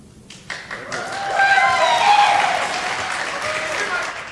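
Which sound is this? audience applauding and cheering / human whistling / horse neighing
audience applauding and cheering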